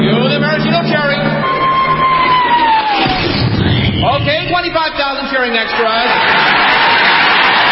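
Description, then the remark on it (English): A huge crowd of 25,000 extras cheers loudly and continuously as a 10-ton maraschino cherry is dropped into whipped cream, a dense roar of yells, whoops and whistles that swells and churns for several seconds without a break. “Then the Royal Canadian Air Force will fly overhead towing a 10-ton maraschino cherry, which will be dropped into the whipped cream for the cheering of 25,000 extras.”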